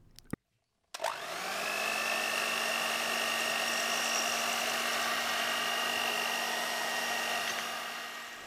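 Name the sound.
blender running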